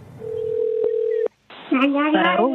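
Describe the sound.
A steady, mid-pitched telephone tone hums for about a second, broken by a couple of sharp clicks, then cuts to a brief silence before a voice begins speaking, at the start of a toddler's accidental 911 call asking for donuts.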